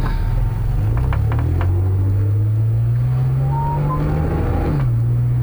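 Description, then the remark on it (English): A car's engine hums steadily from inside the cabin, its low drone shifting in pitch before dropping off near the end as the vehicle slows and comes to a full stop with no traffic around. No one speaks. “Notice I came to a full stop there.”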